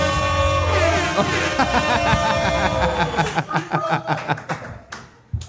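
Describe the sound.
A crowd applauds loudly, with dense clapping over a tonal wash of music or cheering voices at first, then thinning into distinct, uneven handclaps with some chuckles before fading.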